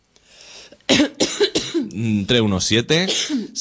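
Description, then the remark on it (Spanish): A run of loud coughs and throat clearing, several sharp bursts in quick succession followed by strained, voiced hacking sounds. “Que tenemos tos, pero aguantaremos hasta las 11 aquí.”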